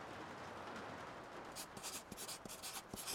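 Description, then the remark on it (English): A pen scratches quickly across paper in short, rapid strokes against a soft background hiss as a message is hastily written, the scribbling starting midway and continuing in brisk bursts. “We received a disturbing message from Nita's aunt, hastily scratched on paper.”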